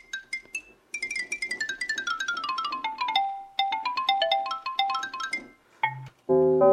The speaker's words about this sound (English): Xylophone.